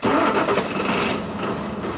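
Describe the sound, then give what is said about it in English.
At 6 a.m. in Campton, New Hampshire, at 5 degrees below zero, a mechanic starts the backup school bus engine; it cranks and roars to life, a loud, rough, continuous rumble that settles slightly toward a steady running growl by the end, with no voices. “At 6 a.m., a mechanic starts an engine.”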